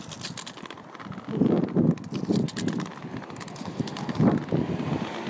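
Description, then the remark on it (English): Footsteps crunch over gravel in a steady walking rhythm as someone approaches a station entrance, with a gusty wind rushing in the background and no one talking. “There's a bit of gravel.”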